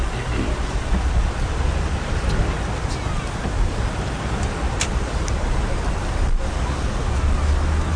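Steady road traffic on the Brighton Road rumbles by in a continuous wash of tire and engine noise during a wreath-laying ceremony in sunshine, moderately loud and unbroken, with no single vehicle standing out from the flow.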